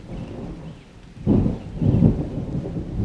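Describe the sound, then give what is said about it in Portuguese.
A torrential thunderstorm on a Sunday night in São Paulo, with steady heavy rain and deep rolling thunder swelling up twice, loud, with no voices present. “Lá fora, galhos ressoam e batem na janela de vidro com uma tempestade torrencial.”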